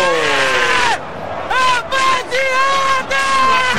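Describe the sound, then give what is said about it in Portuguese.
A stadium crowd of Botafogo fans chants footballer Bruno Silva's name after his goal against Ponte Preta: loud, sustained voices in unison, rising and falling in drawn-out syllables across several short bursts with brief gaps, over a steady background roar. “E a galera grita o nome dele, eu te amo, Bruno Silva!”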